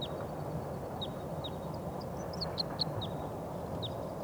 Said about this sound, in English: I think there's some wild birds coming in. I hear a song of a wild bird.